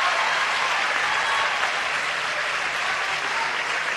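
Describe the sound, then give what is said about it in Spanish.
Steady, sustained applause from a large crowd, given for all the Argentinians who took part in election day, fills the whole stretch, a dense wash of many hands clapping at a constant loud level with no voices standing out. “Así que un aplauso muy grande para todos los argentinos que participaron.”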